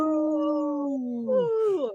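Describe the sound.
Human voices, including Minnesota's Lieutenant Governor, imitate a wolf howl for the wolves, holding a long steady tone that slowly falls, then rising into wavering yips and sliding down at the end. Loud and sustained for about two seconds.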